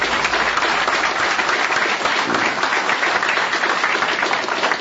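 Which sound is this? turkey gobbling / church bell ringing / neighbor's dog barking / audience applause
audience applause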